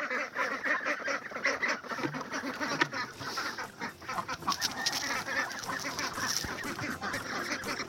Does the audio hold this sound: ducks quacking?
yes